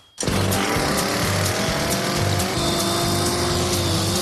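After a moment of quiet, a 100cc chainsaw engine bursts to life after being choked and keeps running loud, with a steady, rough throbbing pulse and no talking.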